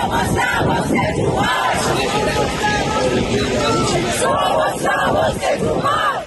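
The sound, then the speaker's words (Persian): A large crowd of protesters in Madrid, Spain, shouts the name of Toomaj Salehi in support of him, in loud, rhythmic chanting, voices overlapping in a dense, steady roar that barely drops for the whole stretch. “در مادرید اسپانیا هم عده زیادی در حمایت از توماج صالحی نام او را فریاد زدند.”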